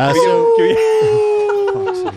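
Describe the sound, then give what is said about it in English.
A person imitates a wolf howl: one long, loud, sustained wavering note held for about two seconds, sliding slightly lower before breaking off, with faint background voices underneath. “You're going to start a howl”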